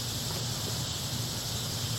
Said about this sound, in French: I didn't know the cicadas would be so loud. Je savais pas que les cigales allaient chanter si fort.